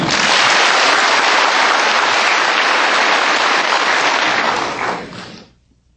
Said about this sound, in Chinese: 现在请无上师的弟子报告他跟青海无上师结缘学习观音法门的情形与心得，请大家掌声鼓励。